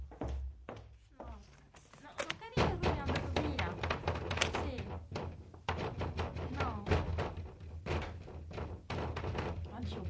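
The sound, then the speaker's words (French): Police knock on a door in a long, busy run of sharp raps and thuds, with voices murmuring underneath. “C'est la police qui frappe à la porte.”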